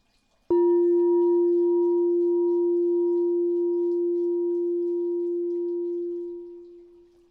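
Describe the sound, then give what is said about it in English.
A single bell is struck once, ringing out with a steady, pure low-mid tone and faint higher overtones, sustaining alone for several seconds before slowly fading. “This time, notice if any thoughts arise while you are trying to listen to the bell.”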